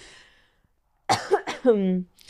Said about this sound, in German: Und dass man so, oh sorry, ich muss einmal kurz husten.